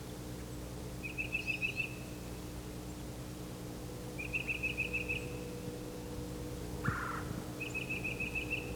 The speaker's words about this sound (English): The flock is gathered here in a bare turkey oak. There are many birds, cardinals, titmice, myrtle warblers. There's a parula warbler.